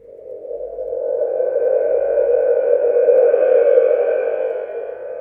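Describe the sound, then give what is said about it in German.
A sound-effects spring drum, a paper-towel-roll-like cylinder fitted with a spring, gives a steady, echoing metallic rumble imitating thunder, swelling in and holding for several seconds at moderate loudness before easing slightly, with no voices. “Ein küchenrollenartiger Zylinder mit einer Sprungfeder fungiert als Gewitter.”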